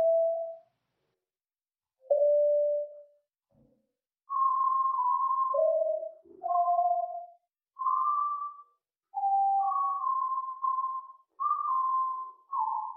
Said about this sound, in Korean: 얼핏 들으면 고음의 피아노 소리나 새소리 같기도 한 이 고음역의 음향은 한국 국방부가 대북 심리전에 사용하는 자유의 소리 방송에서 발출한 것인데 본래 국방부가 송출하는 방송과는 전혀 다릅니다.